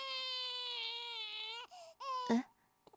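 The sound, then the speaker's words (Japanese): A newborn baby cries: one long, high, sustained wail, then a couple of shorter, broken sobs before it trails off into quiet. “この新生児はとても綺麗な髪色ですね。”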